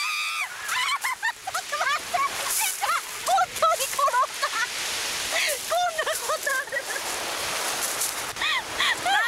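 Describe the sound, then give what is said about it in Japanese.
Waves wash up and draw back along a gravel beach in a steady hiss of surf on a somewhat windy day, while several people's excited voices, squeals and laughter ring out over the water throughout as two women play with the waves at the water's edge. “寄せては返す波、その波と戯れ、水を触り”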